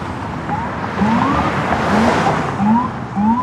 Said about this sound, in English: Oh, and here it comes. We've got black SUVs with the lights on, a van, armored NYPD trucks, an ambulance, tons of cop cars. There he goes.